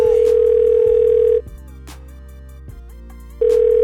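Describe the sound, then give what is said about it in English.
A steady telephone tone sounds loudly, cuts off for about two seconds of near silence, then resumes, like a ringback or dial tone pattern over a low musical backing. “But you always hit my phone asking when I'm coming home.”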